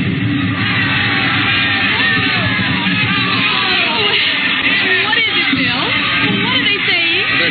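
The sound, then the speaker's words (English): A dense, loud crowd at a spring-night fiesta in a plaza in Mexico yells and shouts continuously, many voices overlapping into a steady roar of festive commotion with no pauses. “Mr. and Mrs. William Travis stood on the edge of the yelling crowd, smiling.”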